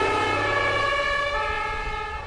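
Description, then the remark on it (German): An ambulance siren wails steadily and loudly as the ambulance drives off carrying an injured person to hospital and turns a corner, its tones slowly sliding in pitch over a low rumble of engine and traffic, with no one speaking. “Der Krankenwagen fuhr los, schaltete die Sirene ein und fuhr um die Ecke.”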